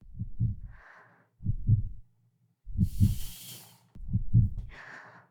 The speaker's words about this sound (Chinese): 现在乖乖的躺在我的怀里，把头靠在我的肩窝上，听着我的心跳。